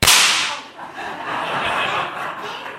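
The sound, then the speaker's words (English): A single sharp pop sound effect bursts out at the start, then a fizzing crackle lingers for a couple of seconds, like a small firework going off and sputtering out. “They said, yeah, we can do fireworks, but the budget's really limited. So you can do this.”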